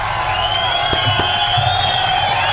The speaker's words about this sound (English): I mean, that is like a huge applause you need.